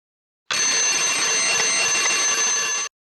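A loud, continuous alarm clock bell rings steadily for about two and a half seconds, a dense metallic jangle that starts and stops abruptly, with no voices over it. The alarm clock is set to ring at 9 o'clock.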